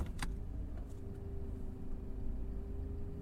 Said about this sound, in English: Wait, why are you stopping the car?